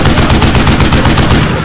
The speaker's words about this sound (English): and the entire plane recoiled as the 50 caliber machine gun spit out gouts of flame between the spinning propellers. The heavy-duty combat rounds slammed along the caravan, ripping the canvas and punching through the contents to hit the ground below.